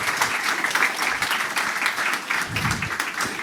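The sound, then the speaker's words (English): A crowd applauds the opening keynote speakers from Element, many hands clapping steadily in a dense, continuous patter at a fairly loud level for a few seconds, with no voices standing out above it. “A warm round of applause, everyone.”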